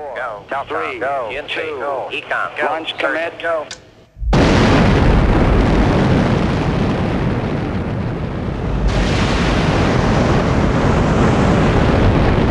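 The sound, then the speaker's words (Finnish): A voice speaks for a few seconds, then the Saturn V rocket launch of Apollo 8 at Kennedy Space Center, Florida, on 21 December 1968 erupts into a loud, continuous crackling roar that rumbles on steadily and grows harsher and brighter partway through. “Tätä komeampaa jylinää ei Floridan niemimaalla sijaitsevalla Kennedyn avaruuskeskuksella oltu aiemmin koettukaan.”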